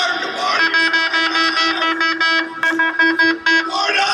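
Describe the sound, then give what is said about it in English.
A loud, brassy air horn blares almost nonstop for about four seconds at 6 a.m. as the Florida Gators team comes into its weight room, holding one steady low pitch with a harsh, buzzy edge and a couple of brief stutters near the end. “Here it is, 6 a.m., Florida Gators team's coming in for their weight room and starting their day, man, 6 a.m., and he's got an air horn.”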